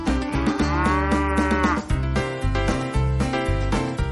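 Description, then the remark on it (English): Dairy cows in a rotary milking parlor on a dairy farm, the rotary holding about 72 cows at a time: one lets out a long, loud moo, followed by more bovine lowing amid steady mechanical clatter and hum. No one speaks. “Well, this is the rotary milking parlor. This is where the cows come to get milk.”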